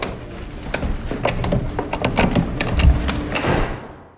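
A door being shut, with a run of sharp mechanical clicks and rattles leading to a heavy low thud, then a brief rattle before it fades out. No one speaks.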